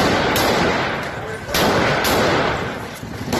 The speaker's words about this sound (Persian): تصاویر منتشر شده از حمله مسلح سپاه نبی اکرم کرمانشاه به شهر جوانرود برای مقابل با اعتراض‌ها. الله اکبر! الله اکبر! مهاجمانی که الله اکبر گویان به سوی معترضان تیراندازی می‌کردند.